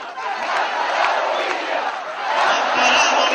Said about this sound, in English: Later, he referred to Chile's debt to Bolivia, and the crowd chanted its approval.